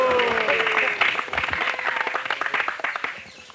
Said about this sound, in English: And all the sakhis were clapping like this.